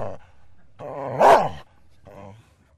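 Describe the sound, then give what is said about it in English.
A dog barks and growls, a drawn-out snarling yelp peaking sharply in the middle, followed by a shorter, softer grumble after a brief pause. “Now that Maddie, along with the McGees, are back from the Wistful Vista Dog Park, we should get back to our story”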